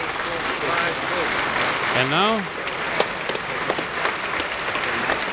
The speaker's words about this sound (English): you hear the members of Congress standing and applauding as members of the Glenn family make their way into the President's Gallery, which has been reserved for their seating.